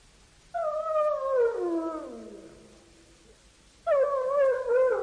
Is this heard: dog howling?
yes